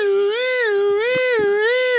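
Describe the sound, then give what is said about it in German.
A loud, steady alarm sound effect wails for about two seconds, its buzzy, harmonic-rich tone swooping slowly up and down in pitch like a siren, with no voices. “Selbstbewegungsalarm.”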